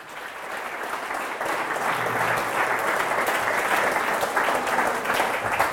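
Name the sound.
audience clapping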